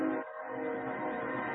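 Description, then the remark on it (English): A train horn sounds in one long, steady blast with a rich, droning tone, with no voices over it. “Oh, there's that train you were talking about.”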